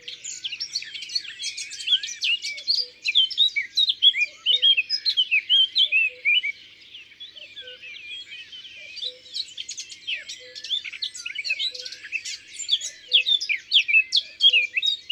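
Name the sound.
eurasian blackcap singing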